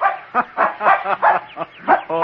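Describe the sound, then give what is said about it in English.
A terrier puppy barks in a rapid, excited string of about eight sharp, high-pitched yaps, fairly loud, with no talking, while out for a run in the woods of a park near the ocean in autumn. “Oh, you're the dumbest dog a man ever owned.”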